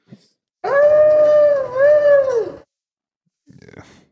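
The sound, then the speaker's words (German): Someone imitates a wolf howl: one loud, drawn-out, slightly wavering cry lasting about two seconds, followed after a pause by a brief, quieter rustle. “Soll das ein Wolf sein oder einfach ein Hund? Nee, das soll ein Wolf sein.”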